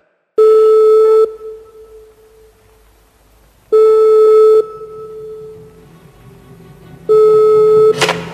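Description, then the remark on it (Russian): A telephone line tone sounds three times, each a loud, steady electronic beep of about a second separated by long, evenly spaced pauses, like a ringback signal, ending with a short click. “Да, видно, наши телефоны соединились намертво.”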